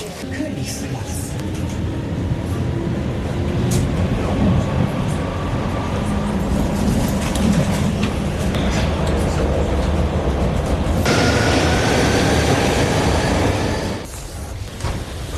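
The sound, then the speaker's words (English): A subway train on the line to Feldmoching rumbles steadily along the tracks late in the evening, heard from inside a carriage, with a loud, continuous low roar, rattling, and a rising motor whine before the noise briefly drops near the end. “Well, it took me half an hour at least to get here by subway.”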